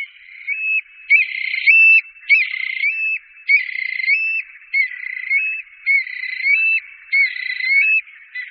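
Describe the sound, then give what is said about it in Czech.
Loud, ringing calls of Eurasian stone-curlews during their courtship display repeat in a steady series, about eight of them, each a strained, wavering note. No one speaks and there is no other background sound. “Ten se uplatňuje i v toku, kdy ptáci hlasitě volají, pronásledují se a zdvíhají křídla, aby bílý pruh lépe vynikl.”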